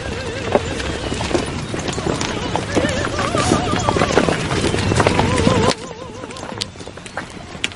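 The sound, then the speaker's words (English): Horse hooves clip-clop in a steady rhythm as a buggy rolls along, with people talking over it; the scene drops abruptly quieter near the end. “How much did that horse and buggy set us back?”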